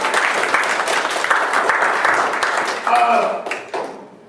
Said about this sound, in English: Give the Lord one more hand of applause in his house.